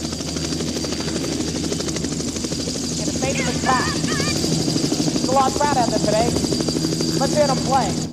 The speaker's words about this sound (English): You have the helicopter landing. You know that beginning?